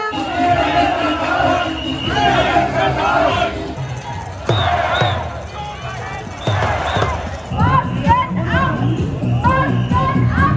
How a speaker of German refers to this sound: Das schreien Demonstranten auf Querdenker-Demos.